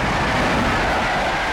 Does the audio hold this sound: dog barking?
no